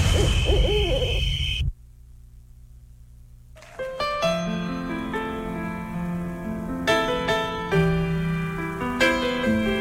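An owl hoots briefly over a noisy rustling background at the start, then after a short silence a sustained melodic music passage begins and continues to the end.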